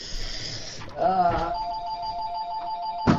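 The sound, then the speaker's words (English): A telephone rings with a steady electronic tone held for about a second and a half, a call from the realtor, following a brief voice-like sound and cut off abruptly by a click. “All right, now the phone's laying in the hall.”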